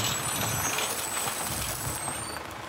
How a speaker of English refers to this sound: Whoa! It's a big, green dump truck. What do you hear?